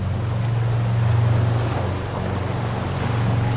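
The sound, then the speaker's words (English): Continuous ocean waves washing steadily with no clear breaks, layered over a low, constant rumble. No voices, just a dense, even roar at moderate loudness. “The sound of the waves to calm your mind.”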